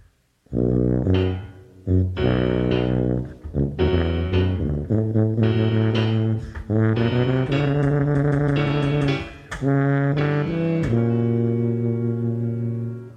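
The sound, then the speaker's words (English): A tuba plays the grandfather's theme, a slow, heavy melody of low, sustained notes in short phrases with brief gaps, loud and steady throughout, with no talking. “The grandfather by the tuba.”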